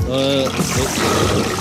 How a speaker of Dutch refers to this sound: Ja, dat zijn golven die spoelen aan natuurlijk.